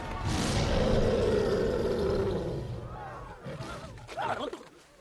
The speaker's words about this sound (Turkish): Kükre be adam, hadi kükre.